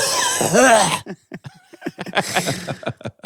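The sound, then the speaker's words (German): A single loud, exaggerated cough bursts out, harsh and strained with a voiced edge, followed by a string of short murmured voice sounds like quiet talk or chuckling. “Und dann auch so husten.”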